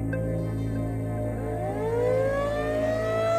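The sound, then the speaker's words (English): A tornado siren howls steadily at 1 a.m. during gusting wind, its wailing pitch climbing upward over a few seconds, loud and continuous with a low droning hum underneath. “That night, I was awakened by a tornado siren at 1 a.m, a howling that matched the sound of the wind as it buffeted the sides of the house.”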